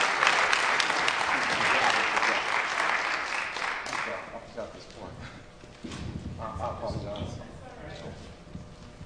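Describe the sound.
A crowd claps in a loud, dense burst of applause that gradually thins and fades, with voices and murmuring audible underneath as the clapping dies down.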